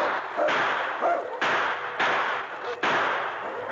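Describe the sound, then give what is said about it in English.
Four loud gunshot blasts fire at uneven intervals, each a sharp crack that trails off into a broad, noisy rumble before the next shot. A sergeant reloads and fires at a wolf pack at night. No one speaks. “The sergeant reloaded and blasted away again.”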